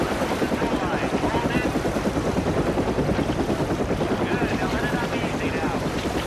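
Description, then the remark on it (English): A rescue helicopter hovers overhead above a shoreline, a stretcher hanging from it on a rope while men below strap a body bag to it. Its rotor makes a loud, steady, rapid thumping that fills the scene continuously, with wind rushing and water noise mixed underneath. “On the shoreline, men strap a body bag to a stretcher and signal up to the chopper above.”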